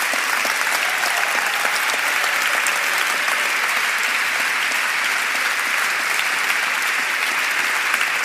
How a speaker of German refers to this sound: Ja, dafür nehme ich gerne den Applaus entgegen.